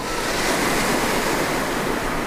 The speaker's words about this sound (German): Da war nämlich Sturmflut. Habt ihr das schon mal gehört? Sturmflut? Sturmflut gibt's immer dann, wenn an der Küste der Wind so richtig, richtig krass weht und dann auch noch in Richtung Land vom Meer aus.